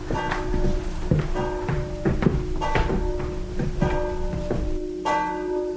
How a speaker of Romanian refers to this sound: Ce voios sună clopotele bisericii din sat, domnișoară.